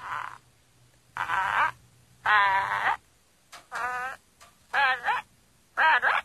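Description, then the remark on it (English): A parrot named Napoleon mimics its owner's voice in a series of short, warbly, speech-like bursts with pauses between them, fairly loud and with no real talking alongside. “You see, that's me he's imitating.”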